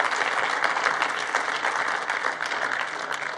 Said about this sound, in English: But anyways, if it's your first time here, we just want to honor you and welcome you by clapping for you. So, welcome.